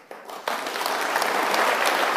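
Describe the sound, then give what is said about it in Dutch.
A crowd breaks into applause for a speech by Pieter Omtzigt about dividend tax, starting with a few claps and quickly swelling into steady, dense clapping that stays loud for the rest of the moment. “Ja, zelfs applaus horen we nu.”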